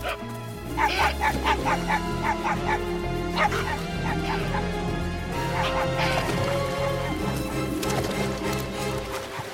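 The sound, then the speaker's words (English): A small shaggy dog yaps repeatedly in quick, high-pitched bursts, loud, as it chases capybaras through a suburban neighborhood, with a short pause between two flurries of barking over a steady low musical backdrop. “A small shaggy dog barks and runs after them.”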